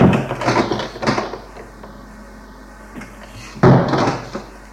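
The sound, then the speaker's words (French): A door is handled and opened downstairs, with rattling and clunking bursts followed by a sharper thud of the latch or frame, then quieter creaks; no one speaks. “Puis, une porte en bas qui s'ouvre.”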